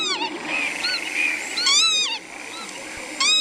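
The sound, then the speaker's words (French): A northern lapwing's call plays back from a nature identification app on a phone speaker: repeated wheezy, rising-and-falling whistles in short bursts, fairly clear over a faint background hiss. “Alors cet oiseau, c'est quoi ? C'est un vanneau huppé.”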